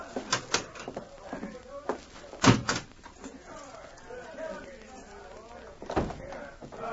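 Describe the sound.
A heavy metal cell door swings shut with a loud clank, followed by sharp rattling clicks of its lock being turned. A few more metallic knocks come through under murmuring voices.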